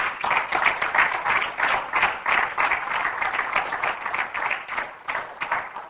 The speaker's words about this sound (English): Shall we give the Lord a clap offering?